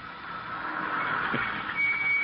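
car arriving

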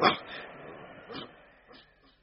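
dog barking

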